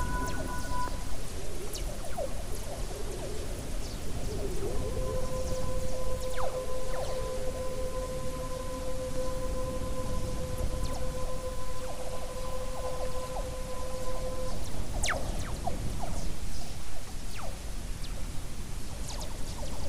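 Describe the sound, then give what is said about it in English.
A black hole sonification: a deep, continuous rumbling whoosh with two steady eerie tones that hold for about ten seconds, plus faint scattered chirps. No voices. “Again, no experimental evidence, nobody ever stood inside a black hole. It sounds like something is swallowing, grabbing every, whoosh, is absorbing light into.”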